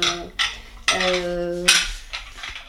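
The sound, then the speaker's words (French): Small tea glasses and dishes clink together several times in close succession as dishes are washed and tea is prepared in a kitchen, one bright clink ringing out with a sustained tone, then softer taps of crockery, with no voices. “Moi, ici, là, en général, je fais la vaisselle, les verres à thé, je prépare le thé, donc il faut une cuisine quand même.”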